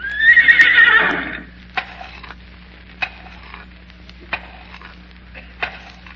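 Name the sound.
horse whinnying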